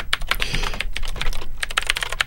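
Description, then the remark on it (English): Rapid clacky keystrokes from a mechanical keyboard in a steady, slightly uneven rhythm with no one talking. “Let's hear the sound of it as you hit the keys.”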